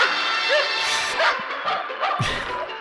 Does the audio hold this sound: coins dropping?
no